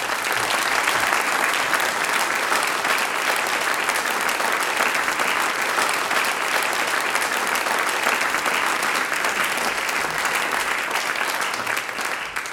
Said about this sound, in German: Danke an euch und auch Applaus für euch alle.